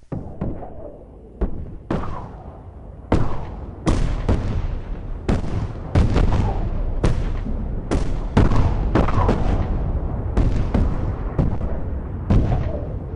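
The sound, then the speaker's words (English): Loud fire from large 24-pounder and 12-pounder cannons, roughly a dozen heavy booms in an irregular sequence, each sharp blast trailing into a rumbling, rushing tail as the ball sails through the air, overlapping the next shot. “You've got that interesting sort of Doppler effect there, the big explosion, and then you sort of hear it sailing in the air.”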